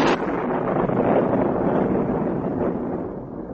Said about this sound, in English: I had a bit of trouble communicating this to him, and I was busy describing some of the wars, big and small, which had preceded World War I, when the lightning storm, which had not impressed him up to now, suddenly intruded.